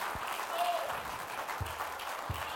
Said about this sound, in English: Let's give him a hand clap of praise right now. Hallelujah, hallelujah.